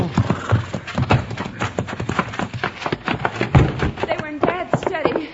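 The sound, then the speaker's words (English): Hooves of the horse Buckshot clip-clop in a quick, steady rhythm, with a short whinny near the end and muffled voices mixed in under the hoofbeats. “Ooh, Buckshot. Whoa, whoa, whoa.”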